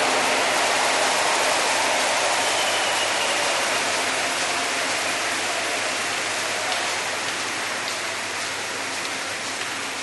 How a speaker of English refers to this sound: Go ahead, give the Lord a big round of applause for the elders.